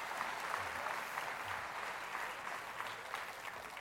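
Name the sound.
audience applauding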